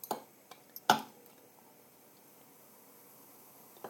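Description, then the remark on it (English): Sparkling wine (cava, not champagne) is poured into glasses as Christmas bubbly, with a few sharp clicks and a brief louder splash early on, then a faint, steady fizzing hiss that continues quietly to the end. No one speaks. “I love the sound of fizz. This is not proper champagne, by the way. This is just cava.”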